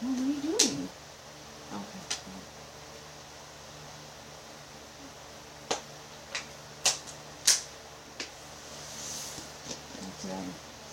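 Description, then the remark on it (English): Faint, sharp clicks pop out irregularly, about nine of them spread across the stretch, over a steady background hiss, with a brief low murmur near the start. “And there's also these like kind of mysterious clicks that are happening.”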